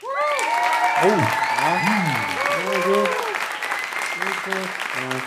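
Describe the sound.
An audience claps steadily for about five seconds, a dense, even wash of applause, with voices whooping and calling out in rising and falling tones over the top.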